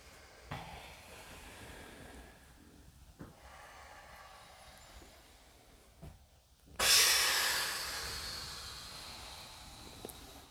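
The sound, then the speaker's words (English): Deep breathing during a breathing exercise: a long, loud, airy exhale surges near the end and slowly fades, after quieter, softer breaths. No one speaks. “Whenever you're ready, you can start breathing again.”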